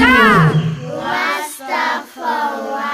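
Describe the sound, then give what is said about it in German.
A loud lion roar opens with a strong falling bellow, followed by two or three shorter rasping roars in quick succession, with no talking alongside. “Und gerade als die Gangster das Mädchen packen wollten, ertönte ein grauenvoller Löwenschrei.”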